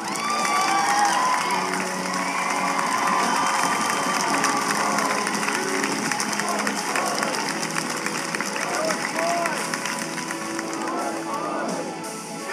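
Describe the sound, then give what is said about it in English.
A large crowd at a rally cheers and applauds continuously, a dense wash of clapping and scattered shouts that stays loud and steady throughout, with voices rising above the roar. “And as I look out right now at this crowd, this is the America that we can be.”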